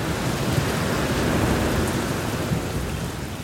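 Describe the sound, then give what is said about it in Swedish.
A stormy mix of heavy, steady rain and blustering wind with a deep, rolling rumble of thunder underneath, loud and continuous throughout, with no voices. “Heden, där det ständigt tycks blåsa, regna och grälas, den är en lika viktig figur i romanen som Heathcliff och Catherine.”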